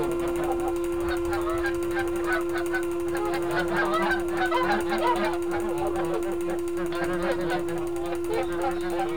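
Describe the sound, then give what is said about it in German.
A flock of geese cackles and honks continuously in dense, overlapping bursts, fairly loud, with a steady hum running underneath throughout. “Auch das Schnattern der Gänse und das Quaken unserer diplomierten Hausente Petronella klingen noch nach.”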